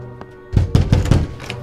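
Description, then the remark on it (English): Heavy, rapid thuds batter a door as it is being broken down, four or five loud, dull blows in quick succession after a faint knock, with no voices. “Open the door, or we'll break it down!”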